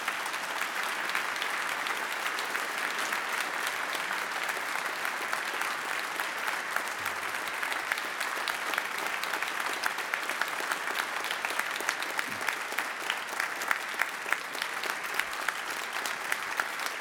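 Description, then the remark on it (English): A crowd applauds steadily for about seventeen seconds to cheer on award recipients as they come up, a dense, even wash of many hands clapping with a few scattered cheers mixed in and no talking. “But would you all come up, and can we just cheer them on?”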